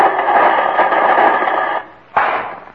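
Loud, steady radio static hisses and crackles for nearly two seconds, briefly drops away, then bursts back in abruptly as someone tunes in a radio. No voices.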